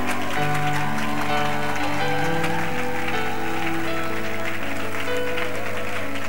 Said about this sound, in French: Waouh! Il y en a encore d'autres. Nous les attendons. C'est pourquoi nous acclamons jusqu'à ce qu'ils arrivent.